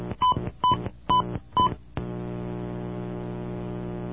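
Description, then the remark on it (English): Four quick telephone keypad tones beep in an even rhythm, entering the digits of a charge number on an automated phone system, followed by a steady, sustained electronic tone that holds to the end. No voices. “Please re-enter your charge number now.”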